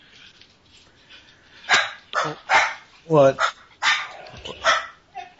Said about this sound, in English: Oh, yikes, dogs.